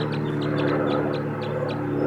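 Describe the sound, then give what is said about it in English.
Wild birds, males, chittering and calling in a quick series of short, high chirps, about eight in two seconds, over a steady low hum of background noise. Nobody speaks. “They're calling now.”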